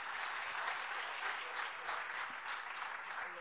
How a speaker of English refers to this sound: Can you applaud that?